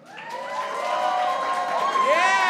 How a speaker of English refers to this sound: If you would rather have unlimited McDonald's but have to summon a portal in a bathroom every single time, make some round of applause.